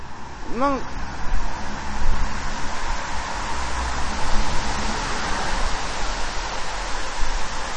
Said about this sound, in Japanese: 無言になってしまいましたけど。 車が来たんで。